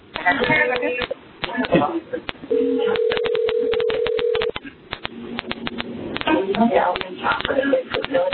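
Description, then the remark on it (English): A steady electronic telephone tone sounds for about two seconds midway through a thin, phone-quality line, with muffled voices and clicks around it. “And there's a phone ringing in the background or something, but I can hear you,”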